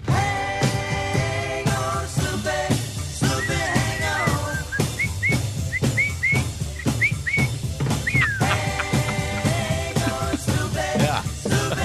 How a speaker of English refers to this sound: The whistling in the original recording of … by ….